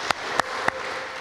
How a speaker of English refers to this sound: I really want to thank their hard work and their partnership in this ministry. So big applause for that.